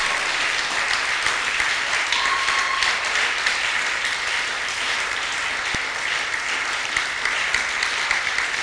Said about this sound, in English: Oh, clap like you have learned something